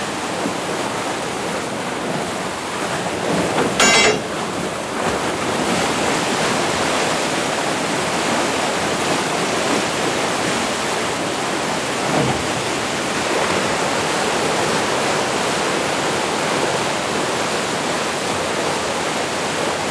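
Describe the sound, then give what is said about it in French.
Water rushes steadily and loudly through the open downstream sluices of a canal lock as the lock is emptied, a dense, continuous roar with no pauses and no voices, unchanging for the whole stretch. “Maintenant, on va ouvrir les vannes à l'aval pour vider l'écluse.”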